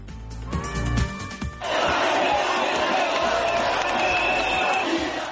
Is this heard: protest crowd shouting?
yes